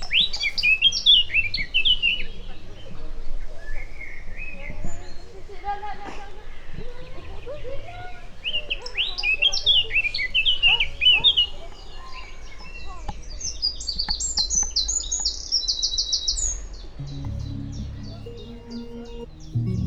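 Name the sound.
bird chirping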